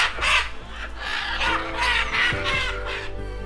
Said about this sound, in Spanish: cientos de guaras rojas descienden del bosque de pino, acompañadas por unas amazonas de nuca amarilla. Los gritos de las guaras y el chillido de las amazonas se vuelve una cacofonía que despierta a toda la comunidad.